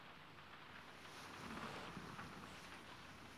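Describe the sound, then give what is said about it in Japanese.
Steady rain pours outside in a continuous, even hiss with a faint low rumble beneath, swelling slightly in the middle before settling back, heard from indoors with no one talking. “よく降るなぁ。外でのデートはお預けになっちゃったけど、先輩のお部屋に来られたから、雨も嬉しいかも。”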